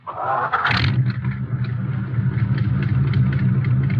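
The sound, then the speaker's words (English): The keys are turned in the ignition; a starter motor whirs briefly, then a car engine catches and settles into a steady, low rumbling idle with a slight rhythmic pulse. “Put them in the ignition and turn them.”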